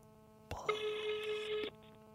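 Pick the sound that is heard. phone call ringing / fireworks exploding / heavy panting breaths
phone call ringing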